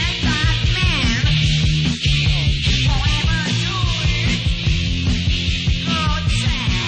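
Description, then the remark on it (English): A badly recorded punk rock song blasts continuously, loud and distorted with a muffled, lo-fi top end and pounding, driving drums. No one talks over it. “Anyway, I listen to this when I get tired of …, because it's true punk rock.”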